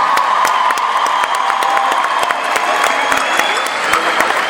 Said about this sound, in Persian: یه دست خوشگل به افتخار خودتون بزنید تا بریم.